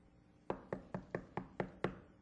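Seven quick, evenly spaced knocks on a door, firm, in a steady rhythm lasting under two seconds, with no voices.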